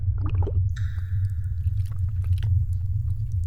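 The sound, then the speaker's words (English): Snaz Appleberry liquor is poured into a glass over a low, steady rumble, with a short splashy start followed by a thin ringing tone from the glass for about a second. “pour me a couple of fingers of that stuff.”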